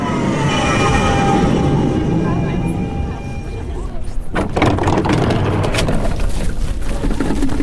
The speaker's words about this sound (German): Er kommt gerade mit der Straßenbahn an.